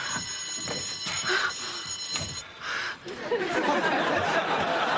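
A telephone rings with a steady, high electronic tone for a couple of seconds, then cuts off, while people chatter and laugh amid busy background noise.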